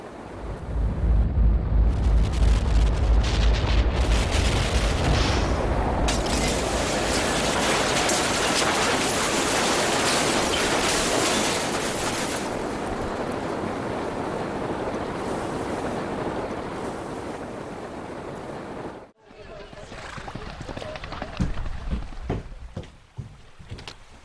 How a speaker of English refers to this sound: Instead of a slowly rising level of water, a 6-foot-high wave thundered into the streets, tossing streetcars into storefront windows, rolling motor cars like dice, and shaking buildings off their foundations.